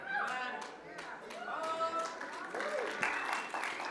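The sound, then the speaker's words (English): An audience, mostly older people, claps steadily for several seconds, the sharp, dense hand claps running under scattered voices and murmuring from the crowd, holding a moderate, even loudness throughout. “Wait a second, I want you to notice who's clapping.”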